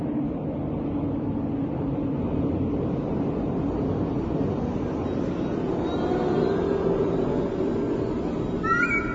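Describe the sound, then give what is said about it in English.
A steady, low airplane engine hum, heard in the nose of the plane after takeoff, drones on without a break, loud and even throughout, with a brief higher-pitched wavering cry rising over it near the end. “I can hear the hum here in the nose, and it's the best place to be.”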